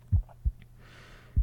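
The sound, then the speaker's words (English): Deep, muffled heartbeat thumps, three soft low pulses with a double-beat rhythm, steady over a faint background hum, no voices. “Are you still counting my heartbeats?”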